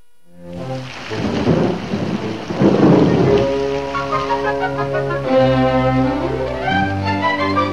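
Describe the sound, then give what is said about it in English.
Heavy rain hisses steadily while deep thunder rolls in twice, loud, before a swelling orchestral music cue rises over the lingering downpour. “a rainy day is a challenge to any growing boy.”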